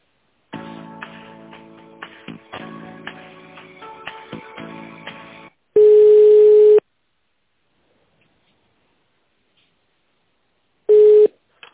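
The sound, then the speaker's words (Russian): Phone line tones during a call transfer: a run of clicky, irregular electronic line noise, then a loud steady tone lasting about a second, a long silent gap, and another short tone burst. “Так, сейчас, секундочку, я переключу на нее.”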